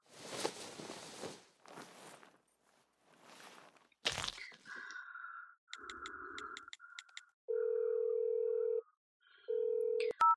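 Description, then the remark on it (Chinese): Some rustling handling noise, then a quick run of short phone keypad beeps as a phone call is dialled, followed by two long, steady ringback tones. Clear, with no one speaking. “那我给他打个电话”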